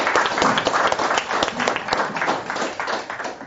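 An audience breaks into a round of applause: dense, steady clapping from many hands that holds at a fairly loud level for a few seconds, then begins to thin out toward the end.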